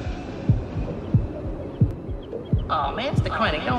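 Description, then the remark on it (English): A quick, steady heartbeat thumps low, about five beats in under four seconds, joined near the end by brighter voice-like sounds layered over the pulse. “Get my heartbeat. Man, that's what it's supposed to do. Now, my shit beat too fast.”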